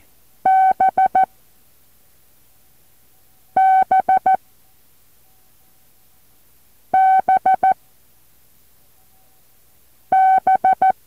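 Morse code tones for the letter B sound the same pattern four times, one long beep followed by three short ones, in a steady mid-pitched buzzy tone with silent pauses between groups.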